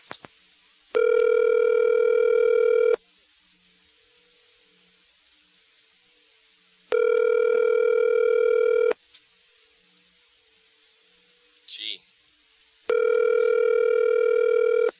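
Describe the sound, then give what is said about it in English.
Telephone ringing unanswered: three steady two-second ring tones, evenly spaced with long pauses between, clear, with only a faint click in one gap and no voice picking up. “They're smart. They don't want to answer the phone.”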